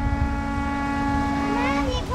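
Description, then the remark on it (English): A ferry horn in the distance blows one long, steady, droning note across lagoon water, carried over a low rumble of wind and engine noise, with a voice briefly rising in near the end. “Oh, you got the ferry in the distance. You guys can hear the ferry horn.”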